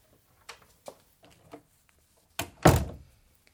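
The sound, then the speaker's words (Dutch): A door swings shut with a solid thump, preceded by a few soft creaks and shuffling handling noises. No one speaks. “En niet zeggen totdat de deur weer dicht is.”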